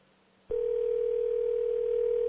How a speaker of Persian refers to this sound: خیلی خوب بریم برای تماس. اگر صدای بوق تلفن رو تقویت کنید تو استودیو ممنون میشم.